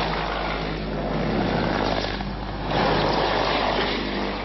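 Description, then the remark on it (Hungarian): A Hungarian Mi-24 attack helicopter roars overhead, rocking side to side to greet spectators, its dense rotor and engine noise filling the air and swelling louder as it passes by, with no voices. “Ez a magyar Mi-24-es billegéssel köszöntötte a nézőket.”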